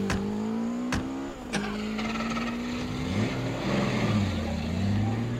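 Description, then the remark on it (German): A car engine revs up and accelerates hard, chasing a motorcycle with a sidecar, its droning pitch climbing and shifting, after a few sharp knocks at the start. Steady, with no voices. “Schnell, zum Auto!”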